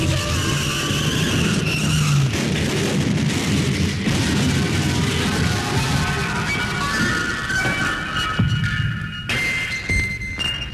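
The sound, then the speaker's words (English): A runaway garbage truck skids loudly, a harsh sustained roar of scraping and rumbling with squealing tires and crashing noises, no voices present. “She grabbed my laundry and ran into the street, directly into the path of a runaway garbage truck.”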